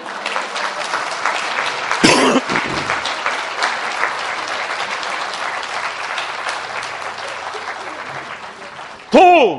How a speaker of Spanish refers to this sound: Pero antes de escucharlo, yo creo que hay que darle un aplauso a los que se han levantado de la retama. Aplaudíos, por favor.